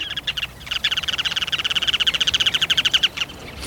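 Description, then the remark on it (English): A Ruddy Turnstone, a sandpiper, calls: a fast, steady run of sharp, high chattering notes forming a rattling trill for about three seconds, fairly loud over faint background hiss, with no voices. “But when you spot the sandpiper named Ruddy Turnstone, you'll have little doubt.”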